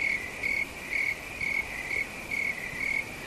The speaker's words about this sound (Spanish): Sí, sí, has oído bien. Grillos como estos, los que suenan, grillos normales y corrientes.